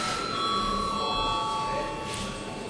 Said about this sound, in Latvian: Lūdzu zvanu.